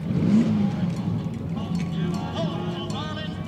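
A car engine revs with a low, throaty rumble that swells early and then settles, while a crowd murmurs in the background at the Pavilions Car Show, an outdoor gathering.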